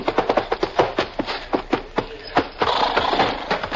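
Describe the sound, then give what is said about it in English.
Rapid hoofbeats of a galloping horse pound in a steady, driving rhythm, then slow and scuffle to a halt amid a burst of rustling noise, as a mail rider arrives at a relay station where a relay rider waits with a fresh horse. “20 miles further along, a relay rider with a fresh horse waits impatiently.”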